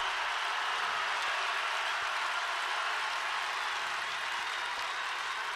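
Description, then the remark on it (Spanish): A concert crowd claps in a dense, steady, synchronized wash of applause, sustained and fairly loud for several seconds with no voices rising above it. “A menos aplausos sincronizados, emoción sincronizada.”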